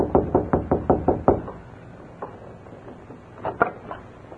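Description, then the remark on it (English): A quick, steady run of about seven sharp knocks on the wooden door of a house, followed by a pause and a few scattered, softer knocks. No one speaks. “They saw Lem Foster rapping on the door.”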